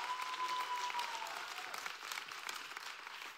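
An audience claps steadily as a guest comes to the stage, a dense, continuous wash of applause holding a fairly even loudness throughout with no voices over it.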